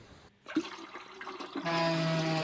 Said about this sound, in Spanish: El anterior es el aire pasando por el váter. El aire pasando por el váter.